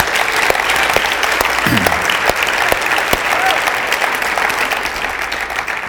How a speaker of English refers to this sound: Let's give God a real hand clap of praise today.